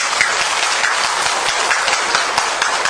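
A large crowd claps steadily and loudly for a few seconds in approval, a dense, continuous patter of many hands with no voices breaking through.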